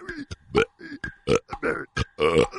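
A rapid series of forced, croaking burps, about eight short bursts in quick succession, loud with gravelly, strained tone and brief gaps between them.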